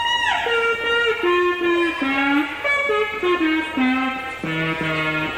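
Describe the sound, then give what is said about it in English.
A wavering electronic instrument tone, played through an amplifier, swoops down, then steps and slides through a series of notes, swelling and fading slightly in loudness as one control sets pitch and the other volume, played alone with no talking. “That one does pitch, this one does volume, so you can go...”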